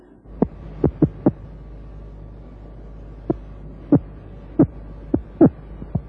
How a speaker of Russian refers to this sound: Сейчас вы слышите вот эти отдельные удары, электрический сом издает во время обороны. Сила этих импульсов особенно велика.